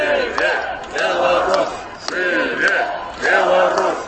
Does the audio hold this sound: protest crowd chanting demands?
yes